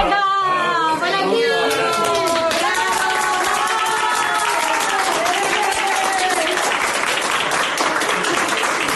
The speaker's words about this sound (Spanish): Así salía el señor en un pasillo de aplausos, rodeado por los sanitarios.